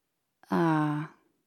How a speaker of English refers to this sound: What are you doing? You're just breathing near my face. That's not ASMR. That's just being a weirdo. Breathe normally.